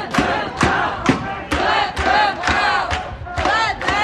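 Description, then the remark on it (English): A large protest crowd in Philadelphia, marching toward Market Street as police disperse it, shouts together in loud, rhythmic bursts, roughly two per second, like a chant, with a constant roar of many voices filling the gaps. “KYW's Vic Ragapathy was there as Philly police aggressively dispersed the crowd after they marched toward Market Street.”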